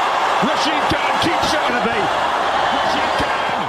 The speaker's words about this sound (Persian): با این تشویق به دلیل پیروزی تیم گجرات تیتانز در ورزشگاه شاید بتوان آن را به عنوان هیجان انگیزترین بازی لیگ برتر هند IPL تا به این مرحله فصل شمارد.